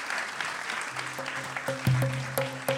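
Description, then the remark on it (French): An audience applauds all the characters who were invited, with dense, steady clapping throughout, while a few low sustained musical tones enter partway through and sound under the clapping. “Je pense que vous pouvez applaudir tous les personnages qui ont été invités.”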